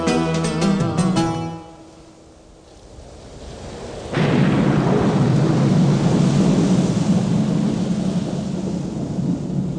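A few seconds of tonal music fade out, then a loud crash of thunder breaks in and rolls into a steady, close roar of heavy rain that lasts to the end.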